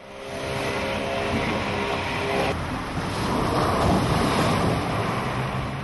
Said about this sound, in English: This video on a U.S. military website shows Marines training at a naval base in Kuwait. The Zodiac, a rugged inflatable boat, bounces over the high waves, levels out, and smoothly maneuvers through the water.